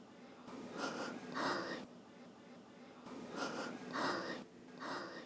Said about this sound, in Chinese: 哎呀，我好不容易才舒服了一点，才这么一会儿你就喘不过气了。我奉劝你别让我太失望呢。好了，别在那喘气了，我要再起一次，屏住呼吸。